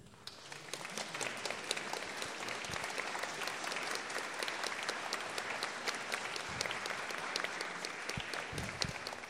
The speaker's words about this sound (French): Je vous demande de les applaudir, bien sûr.